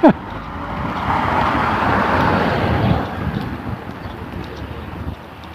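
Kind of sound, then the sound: vehicle, cars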